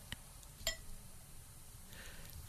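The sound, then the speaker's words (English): Amorosa Bella sparkling wine poured into a glass: a bright, ringing glass clink early on, a fainter tap before it, then a soft steady fizzing hiss of bubbly liquid toward the end. No one speaks. “Champagne going into the glass.”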